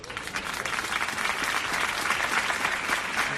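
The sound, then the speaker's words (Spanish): Sustained applause from a large crowd of neighbours in Algeciras after the mass farewell funeral of sacristan Diego Valencia, a dense, steady patter of many hands clapping at once, moderately loud and continuous from start to finish with no voices standing out. “Es el aplauso de los vecinos de Algeciras tras el funeral multitudinario de despedida de Diego Valencia, con su mujer y sus hijos rotos por el dolor.”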